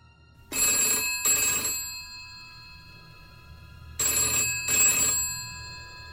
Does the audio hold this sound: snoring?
no